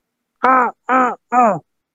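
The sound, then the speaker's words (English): A person imitates a goose, giving three loud, nasal honks in a steady rhythm, each short and slightly falling in pitch, with brief pauses between them and no other talking. “Honk. That's my kind of goose.”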